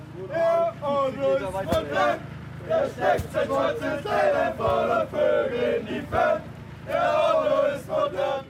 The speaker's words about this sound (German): Ja, richtig gehört. Der Otto ist modern, der steckt seinen, Sie wissen schon, ins Telefon und vögelt in die Fern. So lautet nur einer der schlüpfrigen Vierzeiler, die die Kerwa-Burschen textsicher aus dem schier unerschöpflichen Repertoire schmettern